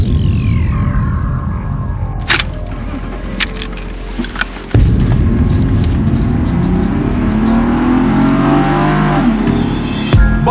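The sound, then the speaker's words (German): A car engine starts and revs up as the driver steps on the gas pedal, its drone climbing steadily in pitch as the vehicle accelerates, loud and continuous, with a few sharp clicks and knocks early on. “Ich steig ins Auto und drücke aufs Gaspedal.”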